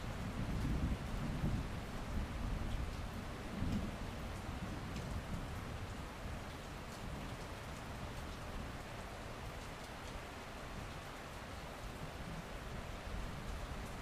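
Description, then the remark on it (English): A thunderstorm over a remote road: deep rolling thunder rumbles through the first few seconds over a steady hiss of heavy rain, which then continues evenly on its own, with no voices. “We seemed to be the only souls on the road for miles, the storm threatening to strike at any moment.”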